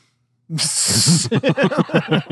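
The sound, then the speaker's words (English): A person imitates a snake's hiss, a sustained, sharp 'sss' lasting under a second, layered over voiced sounds, then breaks into quick, rhythmic vocal syllables, fairly loud. “I'm a snake.”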